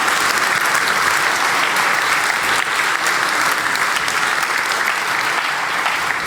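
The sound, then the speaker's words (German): Sustained audience applause for the Chaospost at the GPN event fills the whole stretch, a dense, steady wash of many hands clapping with no break and no voices standing out. “Genau, Applaus für die Chaospost.”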